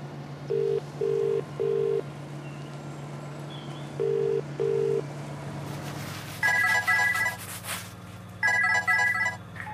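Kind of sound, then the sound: signal or alarm, phone call being dialed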